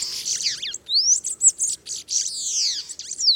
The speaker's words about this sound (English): Though they're smaller than house sparrows, bananaquits are just as bold. They'll even steal sugar cubes from people dining outdoors.